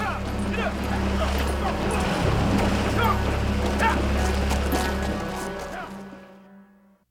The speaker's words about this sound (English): The humbled objector obeys, and the posse rides on across the shallow river.